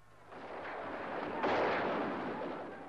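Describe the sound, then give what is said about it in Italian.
Gunfire of shots and machine-gun bursts rumbles in a continuous, rolling din, with a sharper blast cutting in about halfway through before the noise slowly fades. No one speaks. “L'importante è che là, dove si trova adesso, non senta solo gli spari, le scariche di mitra. Anche oggi.”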